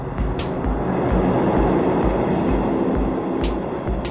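A train rumbles steadily at a railway station, with a rhythmic low thumping of wheels and occasional sharp metallic clanks and hisses cutting through. No one speaks.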